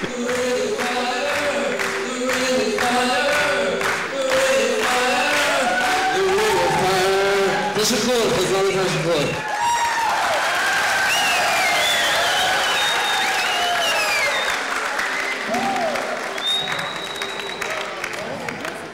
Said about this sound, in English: But they are going crazy. It was the best crowd I've ever had.